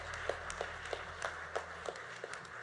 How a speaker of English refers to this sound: So we'll give a round of applause for Brad.